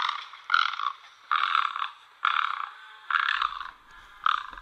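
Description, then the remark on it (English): A bird gives a series of harsh, scratchy, croaking calls, each burst lasting about half a second, repeated six times in a steady rhythm with short pauses between, sounding much like a frog. “You may not hear it from that scratchy call, but this is an incredibly beautiful, elegant bird.”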